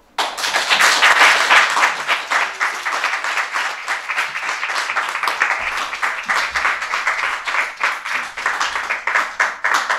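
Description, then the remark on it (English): An audience breaks into loud, sustained applause for the storytellers of an evening of stories about restaurants and hospitality, a dense crackle of many hands clapping that swells at the start and keeps going steadily for about ten seconds, with no one talking. “One more big round of applause for all of our storytellers.”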